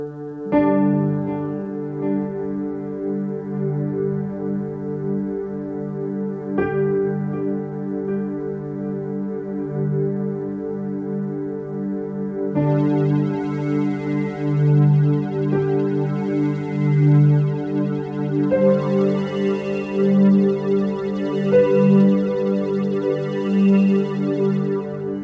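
Sustained, droning meditative cleansing music tones hum steadily with no speech, new shimmering higher layers joining partway through and swelling gently in a slow, even pulse.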